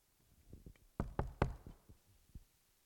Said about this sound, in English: Bang, bang, bang. Someone was knocking on the hull. The crew of HMAS Adelaide had finally reached him.